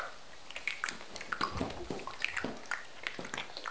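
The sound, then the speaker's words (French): Irregular patter of dripping rain: scattered small drops tapping at uneven intervals, some with a faint plinking pitch, fairly soft and steady throughout with no voices. “Je vais entendre des bruits de pluie qui goûtent.”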